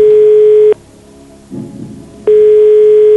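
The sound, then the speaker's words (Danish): Two long, steady telephone ringback tones, each lasting under a second, separated by a quiet gap with faint low rumble, as an outgoing call rings from the TV quiz show Hvem vil være millionær? “Godt, vi ringer til Søren.”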